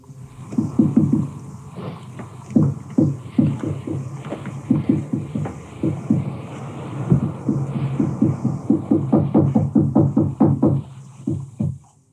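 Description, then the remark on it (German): An original BBC recording of unexplained knocking: dull, irregular knocking repeats throughout, many low thuds coming in uneven clusters with short pauses between, over a steady background hiss. No one speaks. “Das sind Originalaufnahmen des Geräuschs, die die BBC später aufgenommen hat.”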